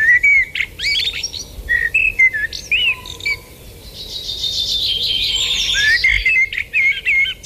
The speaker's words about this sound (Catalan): Merla. Turdus merula. Ocell que habita al riu i a les zones humides durant tot l'any. També el podem trobar a les àrees forestals.